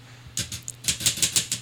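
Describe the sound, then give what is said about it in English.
About eight crisp typewriter key clacks pecked one at a time with one finger, hesitant at first and then in a steady peck, fairly quiet with no voices. “He is pecking the keys with his finger.”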